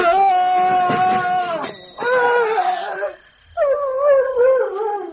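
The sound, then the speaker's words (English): Dogs howl and whimper in loud, close, drawn-out wavering cries, three long bursts separated by short pauses, with no other sounds around them. “Yes, the dogs took the brunt of it.”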